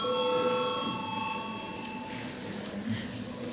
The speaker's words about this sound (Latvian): Lūdzu zvanu.